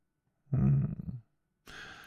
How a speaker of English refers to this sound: My, what a big yawn. Oh, kitten, did you not get enough sleep during the movie?